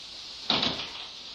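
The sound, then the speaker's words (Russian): A single door is opened to let a man into a hallway, with a brief scraping, rattling sound that quickly fades against a quiet steady background hiss, with no talking. “Утирая слезы, Вера пошла открывать дверь. В коридор вошел муж, слегка покачиваясь на ногах.”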